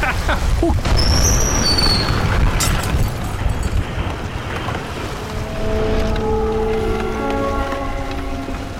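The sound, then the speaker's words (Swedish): A steamboat's engine rumbles steadily over rushing water and wind noise, with a droning mechanical tone rising in the second half. The sound stays fairly loud throughout. “För båten drivs ju av ånger.”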